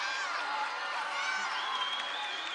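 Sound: audience applause and cheering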